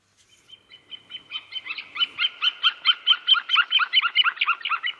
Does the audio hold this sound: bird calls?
yes